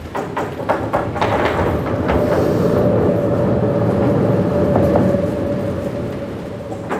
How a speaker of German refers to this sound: Wir haben es in der Umfrage schon gehört. Über diese Brücke fährt der Zug. Früher hieß die Bayerische Regiobahn noch Bayerische Oberlandbahn oder BOB.